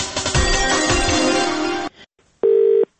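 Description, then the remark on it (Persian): A dense burst of music cuts off, followed by a short silence and then a single loud, steady electronic beep lasting about half a second, the tone of Radio Azadi's automated telephone answering line. “شنوندگان نهایت عزیز، اگر در مورد گمشدگان اطلاعی داشته باشید لطفاً در شماره تلفن اوتومات رادیو آزادی پیام بگذارید.”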